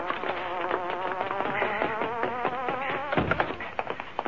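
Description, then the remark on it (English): The Hornet's car engine gives off a steady, hornet-like buzz whose pitch warbles up and down, briefly dipping low near the end. No one speaks. “That's the Hornet's car, I'll tell you.”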